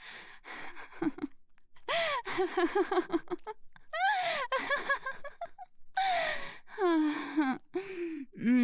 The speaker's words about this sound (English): I can hear you breathing harder.